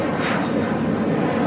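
airplane flying overhead

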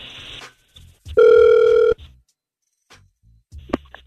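outgoing phone call ringing

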